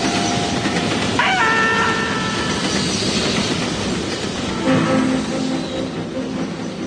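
An approaching train rumbles steadily along railway tracks, with a dense, constant roar and brief metallic squeals or whistle-like tones rising above it. No one speaks.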